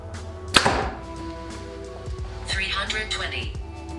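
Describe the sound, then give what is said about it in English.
A Hoyt Ventum 30 compound bow (70 pounds, 29-inch draw, 85% let-off) fires a single 350-grain arrow with a sharp, loud snap of the string and a short ringing decay, followed by a low hum and a brief murmur of voice. “First arrow will be 350 grains.”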